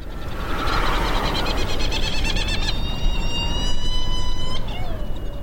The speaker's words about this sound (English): Yeah, here we are on Round Island, not far from the island of Mauritius in the Indian Ocean. And these are flying all around us, are these amazing gadfly petrels called Herald Petrel or Trindade Petrels. These are seabirds